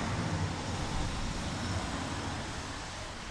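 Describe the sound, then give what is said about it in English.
A car drives past from left to right, its broad rushing roar of engine and tyres holding steady before easing off slightly toward the end. No voices, just the continuous road noise. “That should have been a car going from left to right.”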